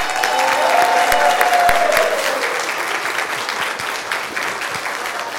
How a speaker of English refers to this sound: Thank you, guys. You want to take another bow so we can give you another round of applause?